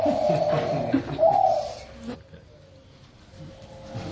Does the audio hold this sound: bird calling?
yes